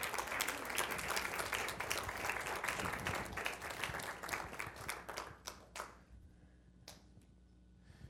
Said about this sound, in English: All right. Why don't you bring her forth with a great big hand clap.